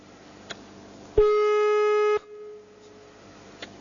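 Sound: telephone line tone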